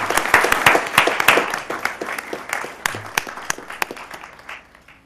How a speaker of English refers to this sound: Let's give them a round of applause and our heartfelt thank you.